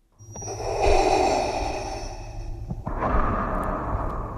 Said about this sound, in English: Darth Vader's breathing is trademarked by Lucasfilm, now a subsidiary of Disney.